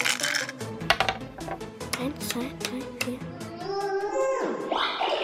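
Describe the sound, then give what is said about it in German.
Dice are shaken in a dice cup with a rapid run of sharp clicks and clatters for several seconds, then rolled; the rattling fades as a tonal, voice-like sound rises in the background. “Hier, Würfelbecher, würfel mal schnell.”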